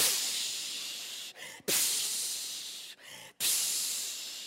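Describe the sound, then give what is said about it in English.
A voice imitates waves crashing over a boat in a storm with three long, loud breathy hisses, each swelling suddenly and then slowly fading, separated by brief pauses. “And the waves start crashing over the boat.”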